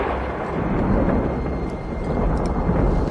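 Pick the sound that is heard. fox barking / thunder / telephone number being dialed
thunder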